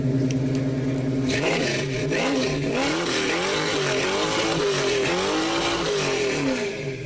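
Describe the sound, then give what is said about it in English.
A muscle car, a Dodge Charger, rumbles steadily, then revs with rising and falling pitch in repeated surges, loud and continuous with no talking. “We do have a muscle car.”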